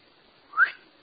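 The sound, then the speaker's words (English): A single brief, breathy whistle attempt by someone whose mouth is too dry to whistle, a faint rising tone with lots of air in it, lasting a fraction of a second over quiet background, with no one talking. “My mouth is too dry to whistle.”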